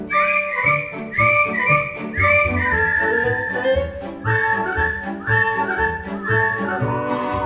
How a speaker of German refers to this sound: Ja, so pfeifen's gern die Eltern her'n, zeigt am Himmel sich der erste Stern.